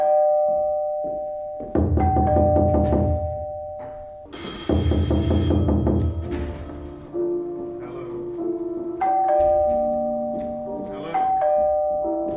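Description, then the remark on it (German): A doorbell rings in two long bursts of rapid, buzzing repeated strikes with low thudding knocks beneath, followed by several sustained, ringing chime tones, loud; knocking and ringing at two doors, played as off-stage sound effects in a stage performance. “Immer hockt eine oder einer am Klavier und mimt das Spiel mit den Tasten, während andere auf das Klopfen und Klingeln an zwei Türen reagieren, sie öffnen, aber nie jemanden vorfinden.”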